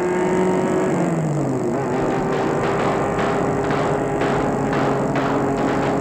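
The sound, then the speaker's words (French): A car engine roars loudly, its pitch sliding downward as the vehicle speeds past at high speed, followed by a steady rumbling drone with rapid mechanical rattling. No one speaks. “On lui apprend à tirer sur une voiture qui roule à vive allure.”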